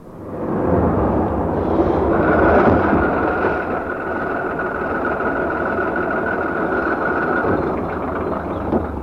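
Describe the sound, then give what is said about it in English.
A heavy bus engine roars steadily as it pulls away, a deep rumbling drone with a rising whine that holds through the middle, and no voices. “You're too late. You've missed the bus.”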